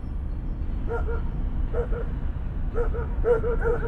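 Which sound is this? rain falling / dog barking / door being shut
dog barking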